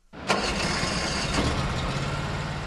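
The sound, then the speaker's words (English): A Craftsman CTX riding lawn tractor engine at a vehicle show cranks and catches after a brief silence, then settles into a steady, loud rumbling idle with a buzzy mechanical drone. “It's a new line of Craftsman lawn tractors, a.k.a. riding lawnmowers.”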